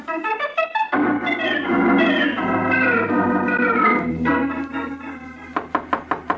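Loud knocking on a door: a burst of hard raps, then a swell of dramatic music, then another rapid series of about five sharp knocks at the end.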